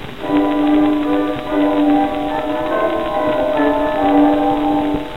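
Church bells ring in a loud, steady peal, their overlapping tones sustaining and blending without pause, with fresh strikes layering in every second or so and no voices.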